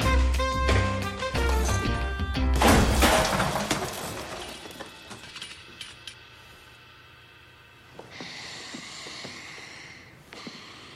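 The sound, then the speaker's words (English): Band music cuts off as a teacher hurls a metal folding chair at a student and it crashes loudly, followed by scattered clattering and a tense quiet with a soft rush of noise later. “he grabs a folding chair, you'll hear it, and hurls it at Andrew”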